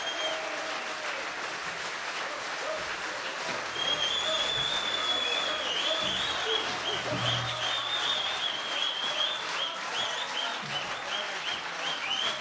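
Sustained audience applause fills the space, a dense steady wash of clapping that swells slightly partway through, with a few whistles and cheers rising above it.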